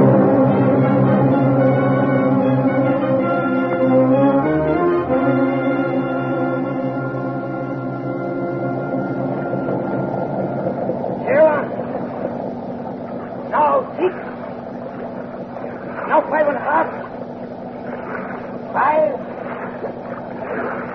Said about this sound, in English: Now get your line out and let's get those engines revved up.